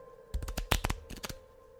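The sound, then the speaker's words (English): A quick burst of crisp, papery snaps and flicks as a woman at a table shuffles a deck of playing cards, about a second of rapid clicks over a faint steady hum, then quiet. “Begins to shuffle them in front of you.”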